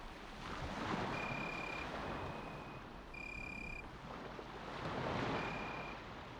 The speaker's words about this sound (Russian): А неопределенные звуки хлопотливой жизни ее невидимых обитателей становились тише, заглушаемые возраставшим шорохом волн. Ибо усиливался ветер.